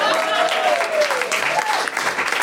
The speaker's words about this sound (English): Over on the facts in Pedant's Corner, doing more checking than a gingham dress, please applaud for